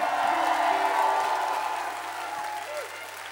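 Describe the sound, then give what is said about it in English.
A large concert audience claps and cheers loudly and continuously on the last night of a tour, with dense applause and scattered whoops rising from the crowd without pause. “Give yourself a big hand.”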